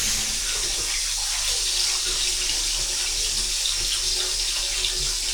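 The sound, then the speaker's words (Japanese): Hot water pours steadily from a tap, a continuous bright hissing rush that stays loud and even throughout, with no talking over it. “もうちょっとお湯増やそうか。”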